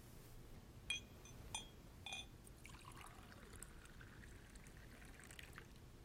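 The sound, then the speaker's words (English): Three light clinks of glass, then a steady stream of water pours into a glass, its pitch rising gradually as it fills. Fairly quiet, with no talking. “Just water? Are you sure? Alright, be right back.”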